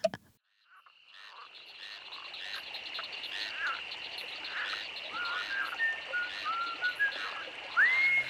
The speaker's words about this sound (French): Passant près d'un ruisseau, j'entendis le chant d'un crapaud. Tout à coup, regardant sur l'eau, je l'ai avisé qu'il chantait tout haut.